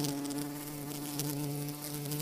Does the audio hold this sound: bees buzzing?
yes